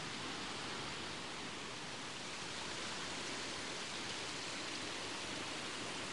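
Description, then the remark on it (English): A series of cascading waterfalls roars in a steady, unbroken rush of white water, filling the whole soundscape, with no voices or other sounds breaking through. “We're now at the top of that series of cascading waterfalls, and the path has plateaued out into another quaint little viewing area.”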